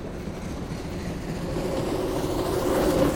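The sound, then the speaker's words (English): A moving train rumbles steadily and grows gradually louder as it approaches, a droning mechanical tone rising out of the noise near the end. No one speaks. “Let's start the train again.”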